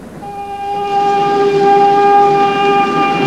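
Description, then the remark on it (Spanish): A train rolls across a plain at dusk on its way to Kadir with a steady low rumble while a long, loud, steady horn blast sounds for nearly the whole time; no voices. “Al atardecer, el tren recorre la planicie camino de Kadir.”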